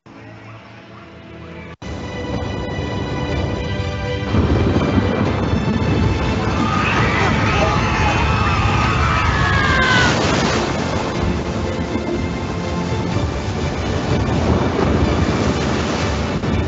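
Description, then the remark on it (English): A loud, continuous storm of roaring wind and churning waves begins abruptly after a brief quieter start, with thin whistling or creaking tones rising through the middle. No one speaks. “The storm is upon us.”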